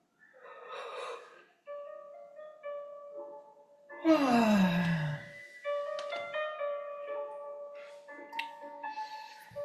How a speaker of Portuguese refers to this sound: Fazendo uma respiração profunda.